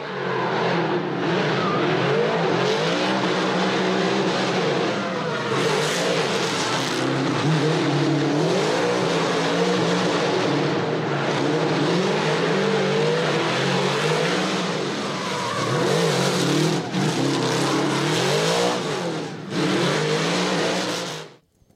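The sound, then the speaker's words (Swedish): A big Chevrolet LSX V8 engine rumbles and revs continuously, its deep throaty growl rising and falling in pitch with repeated throttle blips, loud throughout with no talking. “Chevrolet LSX.”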